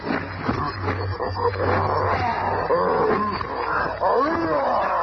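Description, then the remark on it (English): A maddened gorilla roars and snarls ferociously as it springs on the Thing, a continuous burst of growls and bellows, loud and frantic, as if in the middle of a violent struggle. “A ton of fighting fury in the form of a maddened gorilla springs on the thing.”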